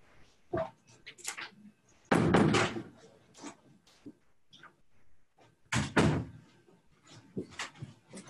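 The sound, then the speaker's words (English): A door in a physics building is pushed shut with two solid thuds a few seconds apart, surrounded by softer rattles and handling clicks, with faint voices from the hallway in the background. “Let me close my door.”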